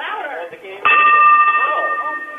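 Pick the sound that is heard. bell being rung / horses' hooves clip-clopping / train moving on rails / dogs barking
bell being rung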